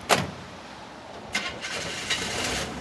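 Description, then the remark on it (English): A 1981 Chevy pickup truck engine in western Kansas cranks with a sharp burst, catches after a couple of sputters, and settles into a steady rumbling idle. No one speaks. “What kind of truck is this? This is a 1981 Chevy. She still runs pretty good.”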